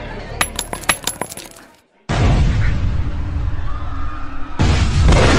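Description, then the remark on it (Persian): A few sharp metallic clinks, a brief silence, then two loud grenade explosions in quick succession, each a heavy, sustained roaring burst, with no voices; two grenades thrown by attackers at 9 pm in Cafe Leopold, a few hundred meters from the Taj Mahal Hotel. “بعد از این دو انفجار انگار رسما بازی براشون شروع شده”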